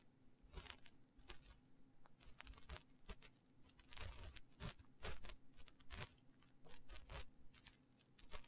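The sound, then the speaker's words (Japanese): Crinkly rustling with dense, irregular crackles and soft scratchy bursts, continuing steadily at a quiet level with no voices. “ガサガサ。”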